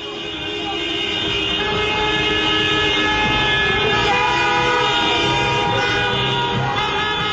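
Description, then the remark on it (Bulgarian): Hundreds of cars honk their horns together in the streets of Pristina during independence celebrations, a dense, continuous blare of overlapping tones that stays loud and steady from start to finish, with traffic and crowd noise churning underneath. “Полиците се изпълниха с стотици автомобили с включени клаксони.”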